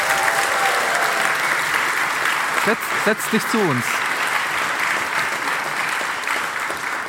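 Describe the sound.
An audience applauds with sustained, dense clapping that stays loud and even throughout, while a man briefly speaks over it partway through.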